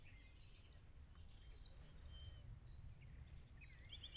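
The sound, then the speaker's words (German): Birds sing outdoors in short, high whistled phrases repeating about once a second, fairly faint over a steady low rumble of background noise, with no one speaking. “Den Vögeln zuhören.”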